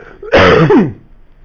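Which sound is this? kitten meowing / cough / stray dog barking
cough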